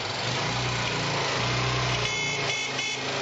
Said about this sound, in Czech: To je motor NSU Pretis, 64. godine proizvodnja, to znači 43. godine start. Kod mene jedno 20 godina, došao je iz Subotice.